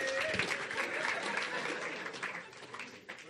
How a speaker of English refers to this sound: Clap for them for 100 points.